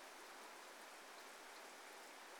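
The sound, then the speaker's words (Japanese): Steady, dense rain from a passing shower grows heavier, pouring down in a constant hiss spread evenly across the whole stretch, with no voices and no separate drops standing out. “天気予報だと通り雨みたいだから、ちょっと待ちましょうか。”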